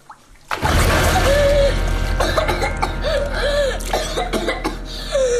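A sudden burst of gasping breaths and harsh, repeated coughing from a person sitting up quickly in a bath after being held under the water, with strained voiced rasps rising and falling, continuing for several seconds over a steady low rumble.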